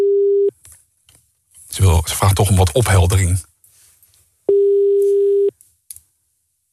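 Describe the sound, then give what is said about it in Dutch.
A steady, mid-pitched telephone ringback tone sounds in long beeps, one at the start and another a few seconds later, with a person speaking briefly in the pause between them, while calling a landline. “de telefoon gaat nu over.”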